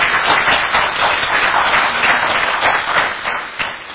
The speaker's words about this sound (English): Thank you very much, guys. Give them a hand of round of applause.